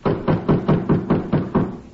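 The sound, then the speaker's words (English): A steady series of about nine firm knocks on a back door, evenly spaced and fairly loud, with a hollow, muffled thud to each hit and no voices. “Back door. Who uses it? Milkmen, delivery boys, lots of people.”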